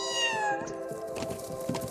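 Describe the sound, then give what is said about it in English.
A single high, thin recorded kitten meow played from a speaker in a playback experiment with deer mothers, sliding downward in pitch, loud, then giving way to faint rustling background noise with no voices. “It is not as though she really wants to be defending a kitten, but the sounds are so similar that she can mistake it for the cry of a fawn.”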